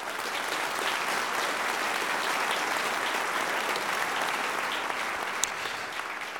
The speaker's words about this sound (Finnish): Tämäpä kiinnostava kombinaatio ja ansaitsee kyllä aplodit.